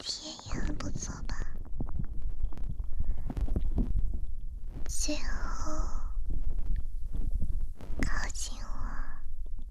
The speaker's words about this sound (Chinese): 下来，我要捂住你的耳朵了。